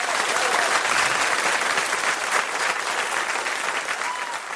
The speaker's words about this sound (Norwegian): Men før vi går av på det her, så vil jeg at dere gir en stor applaus til dagens gjest